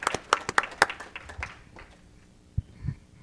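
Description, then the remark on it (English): A handful of quick hand claps, four sharp ones in an even rhythm, then softer scattered pats fading out, with a couple of dull low thumps near the end. “A clap to you.”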